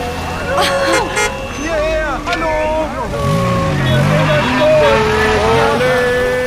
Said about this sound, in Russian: Все эти машины движутся в одном и том же направлении. На запад!